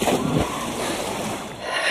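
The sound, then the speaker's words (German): Someone stripped to their underwear slips into a swimming pool, a soft low splash followed by steady sloshing and rippling that continues for a couple of seconds, moderately loud, with no voices. “Dieser zog sich bis auf die Unterhose aus und ließ sich ins Wasser gleiten.”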